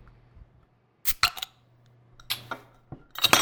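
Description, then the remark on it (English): A beer bottle being opened: a few sharp metallic clicks and scrapes as the cap is pried, then brief bright hissy bursts, with quiet gaps between and no talking. “And I'm going to open it.”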